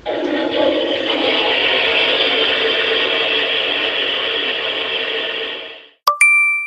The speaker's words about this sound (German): Das ist aber gar nicht dann die echte Spülung, sondern tut eben nur so, damit man auditiv da eben von anderen nichts hört. Und die lasse ich jetzt zum Schluss laufen.